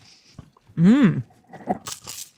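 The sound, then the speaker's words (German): A brief rising-and-falling voiced whine comes first, followed by a few crisp crunching bites into fried dough sticks, short and irregular. “Na, jetzt bin das ich bei den halt Churros.”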